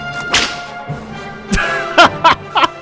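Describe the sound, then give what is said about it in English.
A whip sound effect cracks sharply five times in quick, uneven succession, each snap loud with a brief ringing tail and no voices. “I think that whip was a callback to the very first Cover 5 that almost got Brady in some trouble.”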